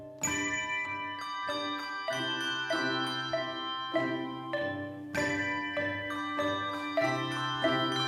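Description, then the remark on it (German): The Nuremberg handbell choir of 13 women and men, each playing 2 to 6 bells, rehearses a steady sequence of struck chords, each one ringing on with bright, shimmering overtones. The bells sound at a moderate, even pace with no voices. “Allen Beteiligten im Haus, auch den Nachbarn ist klar, der Nürnberger Handglockenchor beginnt seine Probe.”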